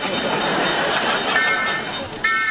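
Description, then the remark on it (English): A party train at a birthday party rolls steadily along with a dense, rushing clatter and faint rhythmic clicks, while high whistling tones rise near the end. “This party train's ready to roll.”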